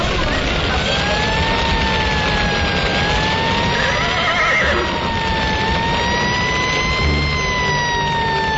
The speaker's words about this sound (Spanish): ¡Ay, los caballos!